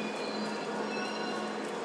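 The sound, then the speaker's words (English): A train rolls into a station platform, a loud steady rumble with a thin, high metallic whine from the wheels running throughout, no voices. “There's one coming in. Find right, Vance, let's go. Sorry. Come on, Vance, let's go. Go. Keep going, Vance. We need this train”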